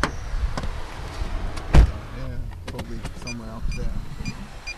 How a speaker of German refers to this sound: steigt in den Wagen und fährt los.